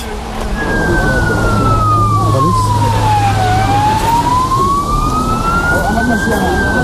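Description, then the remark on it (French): Sirens of two police cars circling a hotel housing asylum seekers: one long wail, its pitch sliding slowly down and then climbing back up, loud over a steady rumble of traffic and street noise. “Pendant qu'on parle, il y a 2 voitures de police qui font le tour de l'hôtel où se trouvent tous les demandeurs d'asile.”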